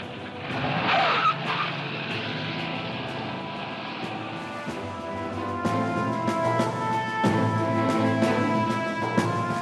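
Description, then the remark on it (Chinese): A car's tires squeal in a brief skid near the start, then the engine roars and revs hard as it speeds away, carrying Harry Truman to the White House, loud throughout with no talking. “讲话时，杜鲁门面色开始变得苍白，放低电话，二话不说就冲出门，上咗汽车。”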